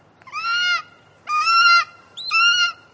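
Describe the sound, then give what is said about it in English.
A golden eagle calls three times in a steady rhythm, each cry a loud, clear, slightly nasal yelp lasting about half a second, with short pauses between and no talking. “Let's let the golden eagle illustrate.”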